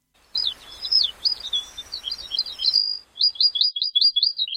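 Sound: small songbirds chirping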